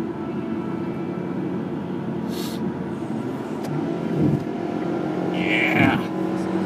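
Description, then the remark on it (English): A small two-cylinder car engine runs steadily, its low, throbbing drone continuous throughout, with a couple of brief higher-pitched whooshes passing over it near the end. “You can hear that there are at least two cylinders in that engine.”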